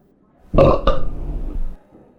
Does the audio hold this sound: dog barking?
no